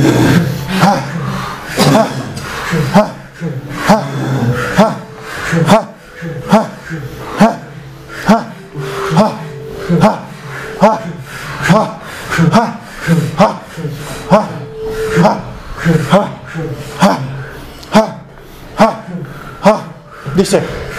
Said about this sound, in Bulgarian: Мощно. Гръдно дишане. Бастрика, пранаяма. Дишай през гърдите. Дълбоко вдишване, рязко издишване.